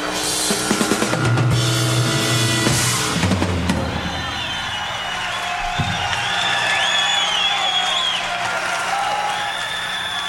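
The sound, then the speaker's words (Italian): An audience applauds and cheers in a steady, dense wash of clapping, with shrill whistles and whoops rising and falling above it. The sound stays loud throughout, and no one speaks. “Diamo, facciamo sentire anche gli applausi.”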